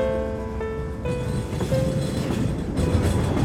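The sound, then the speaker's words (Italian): A train carriage heading to Switzerland rolls steadily along the rails on a spring day, a continuous low rumble with a thin metallic whine riding above it, heard from inside the car with no voices. “Anche quando salgono sul treno che li porterà in Svizzera, la situazione non cambia.”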